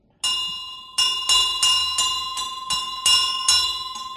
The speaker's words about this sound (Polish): Do czego ten dzwonek służy? Właściwie można powiedzieć, że do czasu zamknięcia kościoła służył nam na taki sygnał, że się msza albo liturgia rozpoczyna. No a w tym momencie jest trochę przykurzony, bo nie jest nieużywany.